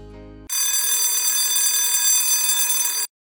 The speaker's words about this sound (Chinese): 消防站的火警警报响起，消防队员们有的在看书，有的在洗澡，有的在吃饭。但是听到火警声响起的第一时间，他们全部冲向车库。